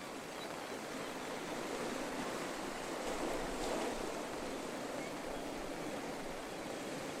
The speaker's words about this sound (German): Du gehst am Strand entlang, hörst das leise Rauschen der Wellen und das Kreischen der Möwen, die über dem grauen, aufgewühlten Meer kreisen.